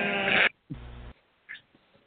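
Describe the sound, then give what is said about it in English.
Two quick, loud sheep bleats sound with no talking: a strong wavering call, a short pause, then a second lower bleat, followed by a few faint small noises. “He saved the sheep.”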